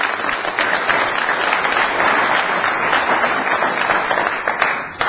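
A crowd applauds steadily for about five seconds, a dense, loud wash of many hands clapping at once with no talking over it, giving a big hand clap for the Lord.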